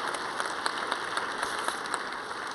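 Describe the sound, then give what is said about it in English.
A church audience applauds steadily, dozens of overlapping claps blending into a dense, even patter with a few sharper hand claps popping out. No one speaks over it. “Yeah, you can give them a round of applause.”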